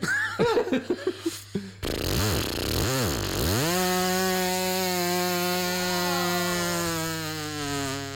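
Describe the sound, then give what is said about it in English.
A voice imitates a weed whacker: a few sputtering bursts, then a revving buzz that dips and swoops before settling into a loud, steady motor drone held for several seconds. “That's my weed whacker noise.”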